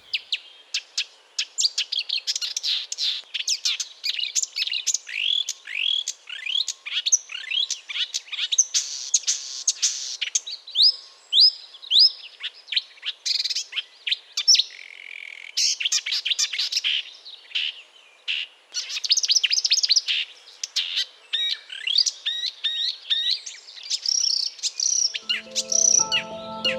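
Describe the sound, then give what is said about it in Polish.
A marsh warbler sings a long, rapid, varied song of chattering trills, sharp notes and mimicked phrases, loud, running almost continuously with brief pauses and no talking. “No, można by dużo mówić o tej łozówce, ale jednak posłuchajmy śpiewu, który jest niesamowity.”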